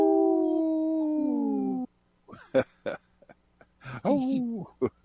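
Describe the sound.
A person imitates a wolf howl: one long, steady, gradually falling wail lasting about two seconds, followed by choppy, broken vocal sounds, fairly loud.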